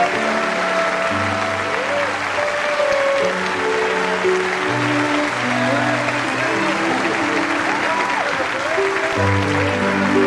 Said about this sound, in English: Everyone stands and claps as Bill smiles broadly and holds up his Salesman of the Year plaque.